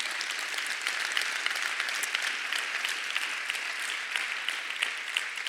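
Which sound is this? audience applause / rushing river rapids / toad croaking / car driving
audience applause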